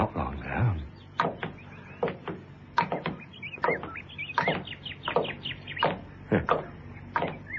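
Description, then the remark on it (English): A dawn chorus: birds chirp and sing in a busy, overlapping chorus, with short bright calls repeating steadily throughout at moderate volume against a low background rumble. “The dawn chorus. The what? Dawn chorus. Birds.”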